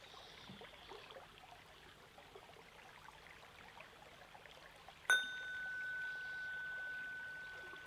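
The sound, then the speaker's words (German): A steady wash of flowing river water, swelling slightly, runs throughout, soft and continuous, until a bright bell-like tone strikes partway through and rings on, sustained over the water. “Und wieder schwillt der Fluss ein wenig an und trägt es hinfort.”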